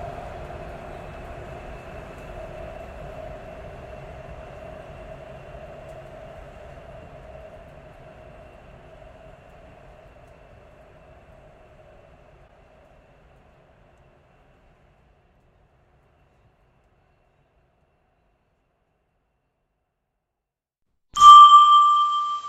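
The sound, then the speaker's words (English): A subway train rumbles into a station with a steady whine that gradually fades as it slows to a stop. After a pause of silence, a bright, ringing chime sounds. “We will discuss it further once we arrive at the next station. Please disembark in an orderly fashion, and remember to mind the gap.”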